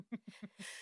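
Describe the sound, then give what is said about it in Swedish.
A small, dainty sneeze: a few quick voiced catches of breath build up, then a short hissy burst of air, quiet and almost babyish. “Det är första gången någonsin jag hörde nysa på ett och ett.”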